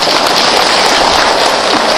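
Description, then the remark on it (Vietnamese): Loud, dense crackling and sizzling from overloaded electrical wiring sparking and burning, a steady hiss of tiny pops that runs unbroken through the whole moment, with no voices. “tại vì chú câu nên nó quá tải rồi nó xẹt lìa điện thôi chứ không có gì chứ, như là pháo đầu năm mừng thôi đâu có sao đâu à.”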